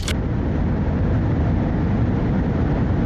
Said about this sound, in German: Oder diesen grandiosen Evergreen, Geräusche aus der Flugzeugkabine.